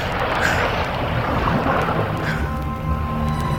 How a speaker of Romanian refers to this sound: Stăpâne, ține-te bine! Ține-te bine! Să nu aluneci! Apele se îndârjesc și ne stau împotrivă!